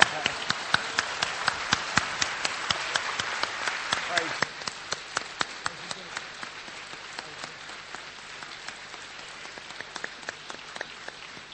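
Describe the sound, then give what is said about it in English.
An audience claps together in praise to Jesus, a dense patter of many hands that thins after a few seconds into scattered, sharper individual claps before fading. “Let's clap to Jesus.”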